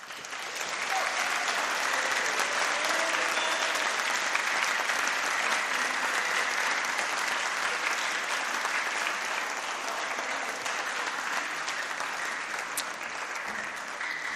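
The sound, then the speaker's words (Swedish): A church audience applauds steadily for about fourteen seconds after eleven people are baptized, a dense, even wash of many hands clapping at constant loudness with no voices standing out. “11 personer har nu tagits in i Guds kyrka och det är värt en varm applåd.”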